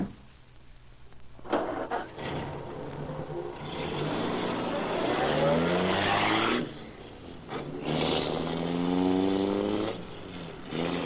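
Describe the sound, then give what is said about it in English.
The engine of the Black Beauty car roars to life and it drives off, revving upward in two loud, rising surges with a short dip between them; no one speaks. “Boy, what a job this car is.”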